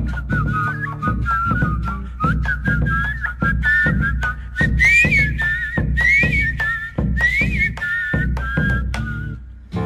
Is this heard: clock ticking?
no